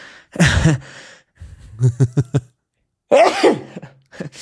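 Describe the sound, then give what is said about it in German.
A loud sneeze fit: a breathy first burst, then a quick run of stifled sneezy spasms, and one more forceful explosive sneeze, with short pauses between. “Warte kurz, ich muss niesen.”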